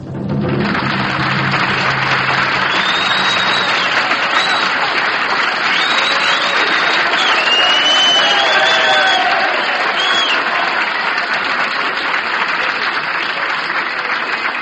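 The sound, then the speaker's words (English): Sustained applause from a large audience greeting the conductor at the Palm Gardens in Columbus, Ohio, a dense steady roar of clapping with a few whistles and cheers rising above it, holding loud and even throughout. “First thing that I'd like to say this evening is thank you for the reception. Magnificent rubato movement and applause here.”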